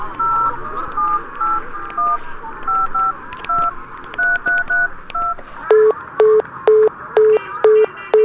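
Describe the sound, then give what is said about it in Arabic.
A rapid sequence of touch-tone beeps as a phone number is dialed, short evenly spaced tones, followed by a steady run of repeated lower pulses of a busy signal, clear. It is a second call attempt and the line is still busy. “هذه المرة الثانية التي أتصل ولكن الهاتف لا يزال مشغولا.”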